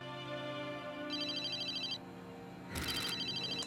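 A phone rings with a bright electronic ringtone, two bursts of repeating tones separated by a short pause, clear over a low steady hum.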